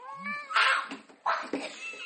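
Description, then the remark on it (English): A cat lets out a small, whiny meow with a rising and falling pitch, followed by a couple of short, breathy mewling bursts. “That small whine from the cat.”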